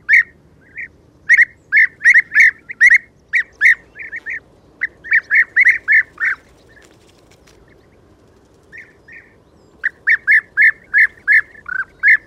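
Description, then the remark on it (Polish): A bird repeats short, soft, vibrating contact calls in quick succession, running together into bright, pearly trills that serve as its song. The bursts come in clusters with brief pauses, clear over a faint background hiss. “Powtarzany wielokrotnie, głos ten łączy się w serię perlistych treli i spełnia rolę piosenki.”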